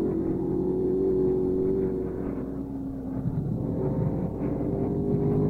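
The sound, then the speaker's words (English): A Can-Am race car engine roars steadily at high revs as the car crosses the start-finish line during a race, its loud droning pitch sliding lower partway through as it passes at speed, with no voices. “There's his pit man, 61 seconds, better than a minute behind, and he gets the word as he crashes over the start-finish line.”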